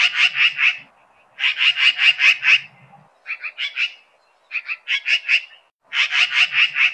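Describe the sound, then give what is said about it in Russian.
A magpie chatters in harsh, rapid rattling bursts, several quick runs of scratchy notes separated by short pauses, loud with no other sounds. “Одна такая птичка подлетит к крылечку, сядет на веточку и щебечет, трещит, новости узнать велит.”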